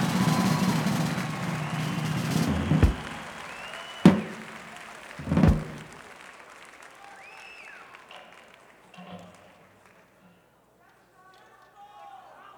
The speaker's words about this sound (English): And a big round of applause for the …. Let's hear it for the ….